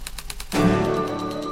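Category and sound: machine, typewriter typing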